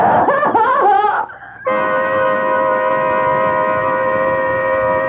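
woman screaming

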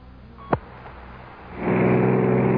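car driving on highway

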